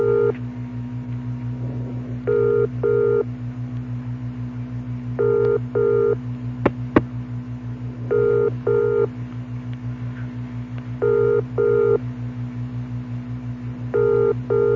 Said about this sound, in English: Okay, I'm dialing the number now. Listen. Okay, it's ringing. This is the way it rings in England.